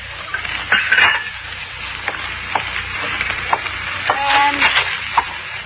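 Pots and pans clatter in a kitchen: scattered clanks and knocks, one with a brief metallic ring, over a steady low hiss like something frying. Fairly close, with no talking.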